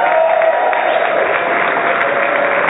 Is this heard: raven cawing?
no